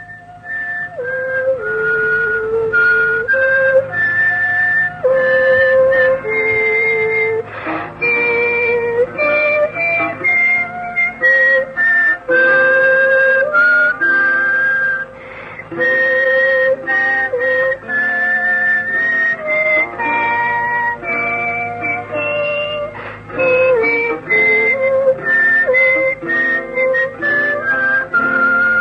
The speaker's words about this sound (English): She actually sang and whistled at the same time, humming the melody and whistling the harmony.